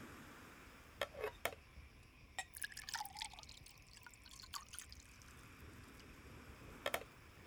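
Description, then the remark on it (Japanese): Orange juice is poured into a glass, a soft splashing trickle in the middle, framed by a few sharp taps and clinks of glassware before and after. No one speaks. “はい、お兄ちゃん。オレンジジュース。 私も飲もうかな。”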